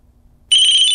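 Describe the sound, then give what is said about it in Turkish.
A telephone suddenly starts ringing halfway through, at 12:27 at night, a loud, shrill electronic tone that holds steady after a quiet start. No one speaks. “Çalan telefonun yanındaki saat gece 12.27'yi gösteriyor.”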